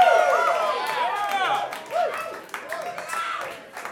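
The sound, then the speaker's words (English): Audience clapping and cheering for a performing band fill the four seconds, a dense wash of claps with whoops and shouted voices over it, staying fairly loud throughout. “You can applaud for us. It is allowed.”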